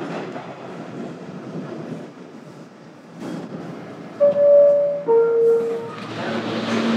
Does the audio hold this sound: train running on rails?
yes